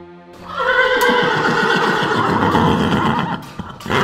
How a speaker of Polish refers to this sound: Tak rży siwy, 19-letni koń z umaszczeniem odpowiednim do imienia.